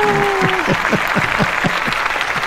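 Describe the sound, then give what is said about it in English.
A canned applause sound effect: a small crowd clapping steadily and loudly, dense overlapping claps with a regular rhythm, plus a brief steady tone at the start. “I have to give you the clap.”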